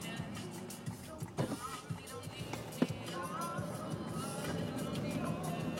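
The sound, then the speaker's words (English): Steady, dense rumble of heavy car traffic passing, with a continuous low roar and a few sharp transient knocks, under faint background chatter, as a driver waits to turn out into it. “Well, it's so many cars. I just have to turn out into these cars.”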